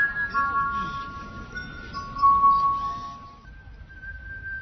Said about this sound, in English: Alex began collecting crystal wine glasses, 22 in all, that make up his glass harp. And so, Alex's music changed from the racket of a booming one-man band street performer to the delicate sounds produced by glass.